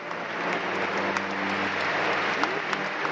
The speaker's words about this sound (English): Then from the sunny courtyard, he passed beneath a delicately sculpted portal into the shade of St. Lawrence Basilica, where in stark contrast to the song of the nuns, he was greeted by the tumultuous applause of over 1,000 young academics.